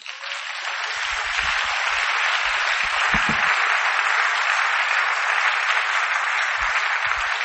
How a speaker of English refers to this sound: Clap for God.